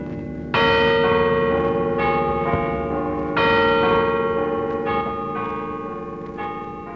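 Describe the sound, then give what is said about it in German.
The carillon high in the tower of the old Garrison Church in Potsdam, Germany, plays slow, evenly spaced bell notes for Christmas 1940, each one ringing out and lingering into the next, with no voices, over a faint low background hum. “Das Glockenspiel hoch am Turm der alten Garnisonkirche.”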